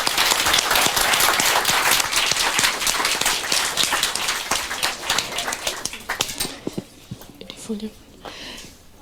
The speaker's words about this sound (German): Ja, vielen Dank. Ich finde, das hat einen großen Applaus verdient.